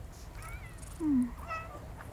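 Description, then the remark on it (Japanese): A cat lets out a short, clear, downward-sliding meow, followed by a fainter second call, over a steady low background rumble. “猫ちゃん、とろくさいね。”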